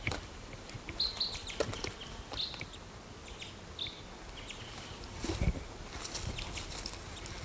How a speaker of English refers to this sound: Now the mate of the female is calling from this tree.